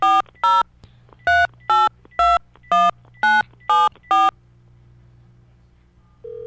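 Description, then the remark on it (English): A phone number is dialed with a quick run of nine crisp touch-tone beeps in a steady rhythm, followed by a low line hum and a brief tone at the end, calling a listener as the third call of the morning. “Is your phone about to ring wherever you are?”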